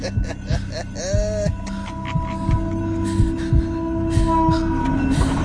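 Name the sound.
train speeding past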